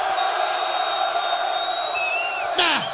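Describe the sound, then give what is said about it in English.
A crowd of men cheers and shouts steadily for a few seconds when called on to make some noise, a dense wall of voices with a couple of rising whoops cutting through near the end. “Now, to all the brothers in the place that don't give a damn about what them ladies talking about, because you just trying to get your man, make some noise.”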